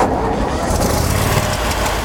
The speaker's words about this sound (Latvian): Startēsim ģenerātoru.